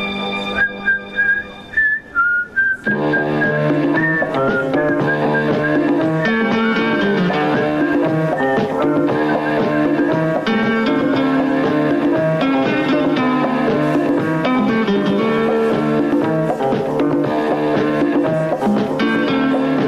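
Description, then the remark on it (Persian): A brief whistled melody leads into loud, full instrumental opening theme music of the TV series Talagh (Divorce), playing continuously and steadily to the end, with no talking. “چه شنیدید تیتراژ سریال طلاق بود که ایشون ساخته بود.”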